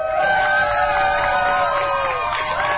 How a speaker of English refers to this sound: Sounds of cheers as a gay pride rainbow flag gets raised over the Wisconsin state capitol for the very first time as part of LGBTQ month.